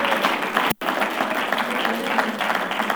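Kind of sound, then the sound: crowd, audience clapping and shouting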